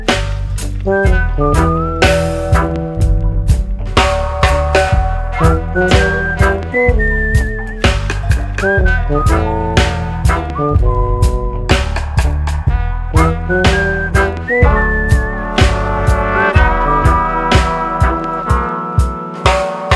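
A whistled melody runs over a full, steady band accompaniment with a thumping beat and bass, the clear high tune rising and falling in short phrases throughout.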